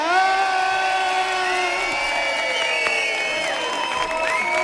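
A crowd cheers and whoops loudly for several seconds, many voices shouting together over steady applause, with the noise staying strong and continuous throughout.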